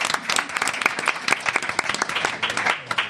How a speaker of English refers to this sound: So let's give our audience here a big round of applause. And another round of applause to our audience on the radio and the Internet. One more round of applause.